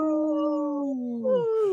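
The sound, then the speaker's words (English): People in Minnesota imitate a wolf howl, howling for the wolves: a long, loud, wavering vocal tone slides slowly downward, and a second howling voice joins near the end, overlapping before both trail off. “we always want to, like, howl for our relatives, the wolves, and we know the lieutenant governor here in Minnesota is in the wolf clan”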